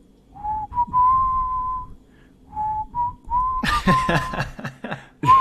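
A person whistles a slow melodic tune in two clear, close phrases, then bursts of laughter break in and the whistled notes falter underneath.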